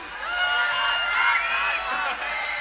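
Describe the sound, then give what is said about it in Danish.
A large audience shouts a chant loudly together in a sustained, unified roar, filling the whole stretch with dense overlapping yelling. “Kan I råbe... I skal finde noget populært at råbe.”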